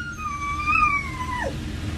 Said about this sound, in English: A dog that sings ….